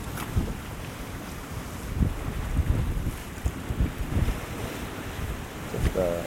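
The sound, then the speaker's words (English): Ocean waves break against rocks, splashing and foaming in irregular surges, with steady wind gusting and buffeting the microphone throughout; no one speaks. “Mesmerising to watch waves come in and break and splash and foam.”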